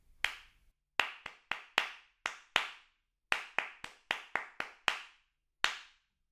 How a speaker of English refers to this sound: I shall count the pulse and then clap a rhythm. You clap it back immediately after you hear it.